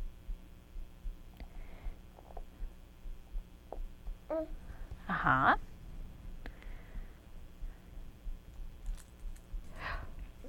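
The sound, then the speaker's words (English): Keys being handled: scattered light clicks and a brief louder jangle in the middle, then a few softer rattles near the end, over a steady low hum. “Oh, yeah, those keys.”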